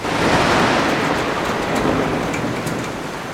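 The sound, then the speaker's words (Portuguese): Heavy, torrential night-time rain showers, depicting the storm at Largo da Carioca on 5 October 1869, pour down in a dense, steady roar of hissing drops, loud, with a faint rumble underneath and no voices. “Tava chovendo. E olha, eram pancadas de chuva bem assustadoras, viu?”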